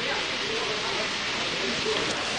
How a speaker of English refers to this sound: In the background now you can hear the waterfall, again and still in the jungle, the animal sounds, the birds and the trees.